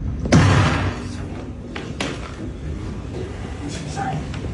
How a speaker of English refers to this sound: Have you ever heard anything so outrageous at a chess tournament, banging a table one singular time? Unheard of. Unheard of.